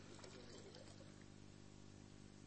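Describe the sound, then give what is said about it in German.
Water streams and splatters out as an object dipped in water is squeezed, a steady, fairly quiet liquid rush lasting a couple of seconds with a low hum underneath. “Also fangen wir bei dir an, tauche das Ding in das Wasser und drück's ein paar Mal.”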